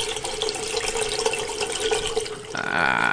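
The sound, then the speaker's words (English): Tap water runs steadily into a sink while the dishes are being done, in a loud, even rush, then shifts near the end to a brighter, ringing tone as the stream hits filling water. No voices. “I'm going to go do the dishes now.”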